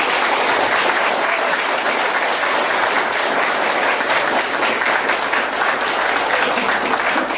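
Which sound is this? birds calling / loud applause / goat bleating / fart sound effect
loud applause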